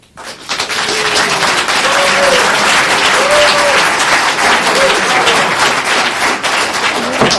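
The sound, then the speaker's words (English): Sustained audience applause at a planning commission and council meeting, a dense, steady wash of many hands clapping that starts abruptly and holds loud for several seconds, with faint voices murmuring underneath. “Okay, please hold your applause.”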